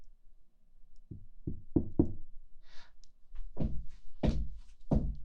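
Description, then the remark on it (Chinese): Knocking on a dormitory door, fairly loud: a quick run of four raps, a brief rustle, then three slower, heavier knocks. No one speaks. “开门啊！”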